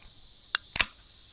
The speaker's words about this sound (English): The opening of the beverage that will fuel their fellowship. And what drink would that be? Not a cold beer, actually. It's flavored sparkling water, LaCroix to be exact